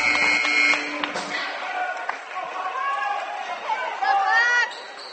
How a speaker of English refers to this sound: Third row here at Sydney High School, right behind the scorer's table. Great vantage point. Good crowd is filed in now here at the Sydney gym. I'd say several hundred here at the moment. A lot of Bodkins fans to our left.